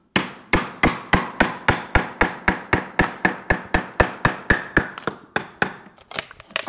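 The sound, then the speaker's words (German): A mallet with a round plastic head strikes a metal splitting chisel in a steady, fast series of sharp knocks. About seventeen even blows are followed by a few looser, irregular taps. “zum einen die Spaltmeißel und dazu halt einen passenden Hammer, die Schlauder. Ja, dieser Kopf hier ist rund und ist eben heute aus Kunststoff, früher war aus Holz.”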